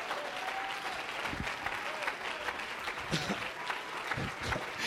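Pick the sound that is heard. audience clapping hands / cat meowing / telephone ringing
audience clapping hands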